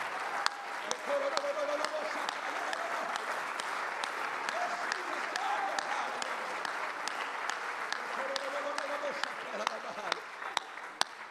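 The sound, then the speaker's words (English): A large audience at a church sermon claps loudly and continuously for Jesus, dense overlapping hand claps, with faint voices and cheers rising underneath at moments. “Oh, somebody clap your hands as loud as you can unto Jesus.”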